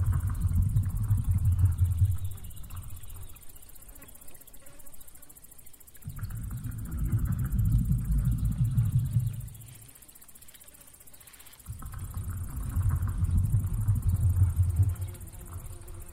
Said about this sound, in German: Sie hören ein Donnern in der Ferne. Es ist ein Störweibchen, das mit ihren Artgenossinnen kommuniziert.